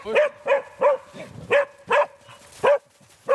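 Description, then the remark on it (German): Several hunting dogs bark in a steady, fairly quick series of loud, sharp barks roughly every half second, with a faint whimpering undertone between them and no talking, as they are sent out with beaters along a 200 to 300 metre line on a hunt. “verteilt Hunde und Treiber über eine Linie von 200 bis 300 Metern und schickt sie los.”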